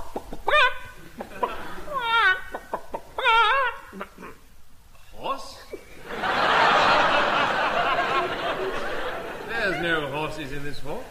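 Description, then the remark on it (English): A person imitates a chicken with a few short, clucking vocal bursts, fairly loud, followed by a rough, breathy stretch of noise and one more clucking sound at the end. “There's no chickens either.”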